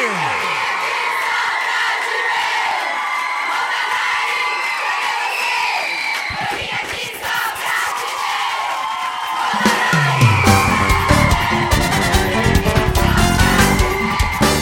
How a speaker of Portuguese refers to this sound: Cadê o grito da galera aí?